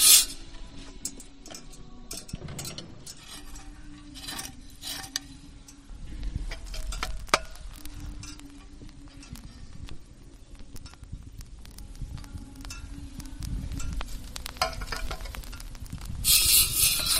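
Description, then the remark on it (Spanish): The chains of a swinging censer clink and tick in a steady rhythm while charcoal and incense crackle softly beneath, during Holy Week processions in Valladolid, Spain, with sharp metallic taps standing out over a low, continuous murmur. “Ese crepitar del carbón, ese crepitar del incienso cuando toca la llama del carbón y esas cadenas son inconfundibles.”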